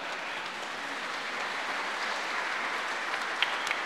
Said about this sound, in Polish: Także wielkie brawa.